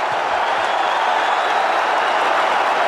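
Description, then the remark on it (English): A large WrestleMania crowd in Boston cheers as Pete Rose gets a Tombstone, one dense, continuous roar, staying loud and even throughout without any single voice or clap standing out. “And this crowd in Boston loved it!”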